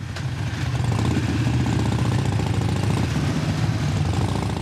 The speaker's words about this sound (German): Einer der möglichen Bündnispartner ist für schöne Fernsehbilder in eine Bikermontur geschlüpft und macht mit 30 anderen Motorradfahrern eine filmreife Tour durch die sonst so beschauliche Sierra bei Madrid.